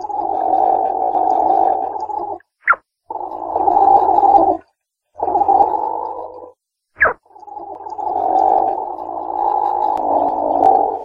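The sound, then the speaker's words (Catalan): Platypus sounds: long stretches of low, rough bubbling gurgles, broken twice by a brief, sharp, high little cry before the bubbling resumes. No one speaks. “Fa un so ben peculiar entre bombolletes i petits crits.”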